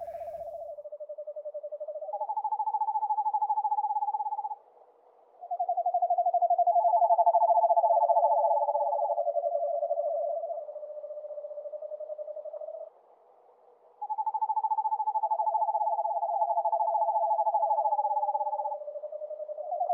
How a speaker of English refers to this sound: Sometimes, when out at night, you can be lucky. This night was just that. Several screech owls in full orchestration. I have never heard this combination before, or never ever heard it again like this.